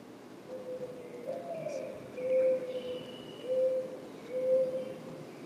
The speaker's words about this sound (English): Now, doves can haggah. Let me read. Okay, here's a dove. He's going to haggah.